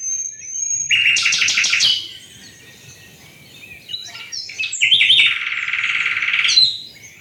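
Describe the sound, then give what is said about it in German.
A nightingale sings in two bright bursts of rapid, rattling trills, separated by softer, thinner chirps and whistles, with no voices present. “Aber ein kleiner Nachtigall ist im Moos gesessen und hat vor sich hin getrillert.”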